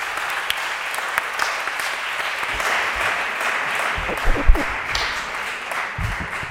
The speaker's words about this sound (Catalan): Però abans de començar, sisplau, crec que es mereixeu un gran aplaudiment.